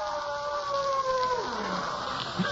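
A single long wolf howl rises and holds, then slowly slides down in pitch over a steady background hiss, with no voices present.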